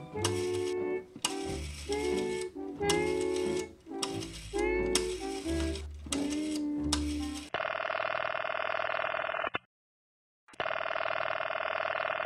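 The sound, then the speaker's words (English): A rotary telephone dial whirs and clicks back several times in quick succession as a call is placed to Mr. Herman of the real estate company, then a steady electronic ringing tone sounds on the line, pausing briefly before ringing again. “You get on the phone and call Mr. Herman of the real estate company right now.”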